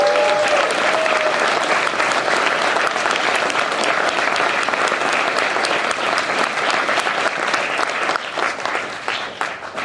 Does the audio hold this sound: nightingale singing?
no